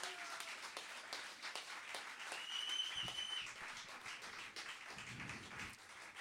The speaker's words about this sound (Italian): E quest'anno è particolarmente importante perché è dedicata ad Alberto, per cui prima di tutto questa serata è per Alberto Dubito, per cui vorrei un grandissimo applauso, grazie.